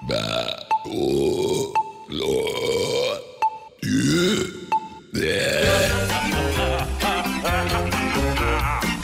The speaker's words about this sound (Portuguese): Atenção, emissoras da Rede Atlântida, para o top de formação de 5 arrotos